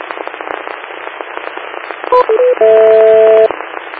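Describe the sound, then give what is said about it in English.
Steady radio static hisses throughout, then a quick run of three short tones at shifting pitches gives way to a single sustained beep lasting about a second before the hiss returns. “Yeah, hearing a single beep on this end.”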